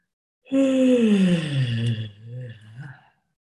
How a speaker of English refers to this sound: And maybe you can find some yawns.